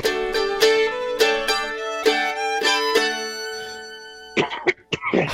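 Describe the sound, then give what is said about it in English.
A short burst of rough, gravelly coughing, three or four harsh hacks, comes right after several seconds of ringing musical notes. “It sounds like when you cough, it sounds like a a gravel.”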